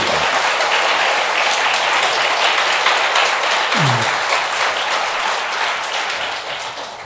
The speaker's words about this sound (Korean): 네, 감사합니다. 한 박수 한번 칠까요?